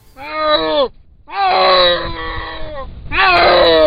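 A snow leopard, filmed in the Tunkinsky District of Buryatia, gives three long, moaning howls, each a strained, harmonic-rich wail that starts low, rises and wavers. Brief pauses separate them, with a rough growling undertone beneath.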